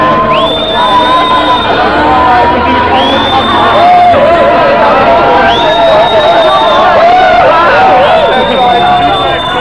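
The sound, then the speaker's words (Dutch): A large crowd of demonstrators marches through a street, walking between cars up Constantijn Huygensstraat, with loud, continuous shouting and babble, and a rising whistle-like tone recurring every couple of seconds above the din. “En men loopt nu tussen de auto's door de Constantijn Huygensstraat op.”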